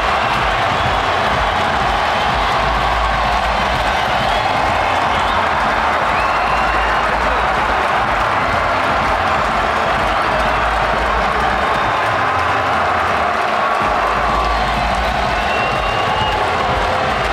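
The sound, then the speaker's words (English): A huge football stadium crowd roars and cheers after Eddie Nketiah scores an Arsenal goal with five minutes to go, a loud, dense wash of voices mixed with clapping that holds steady for the whole stretch with no one speaking clearly. “The crowd are going wild for Eddie.”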